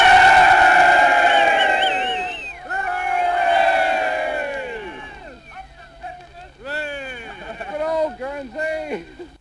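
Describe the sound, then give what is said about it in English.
A large crowd in Guernsey cheers the troops as they start their march through the town, many overlapping shouts and rising whoops, the roar easing after a few seconds into scattered high-pitched yells and calls. “We've just landed here, and you can hear the people cheering the troops as they start on their march through the town.”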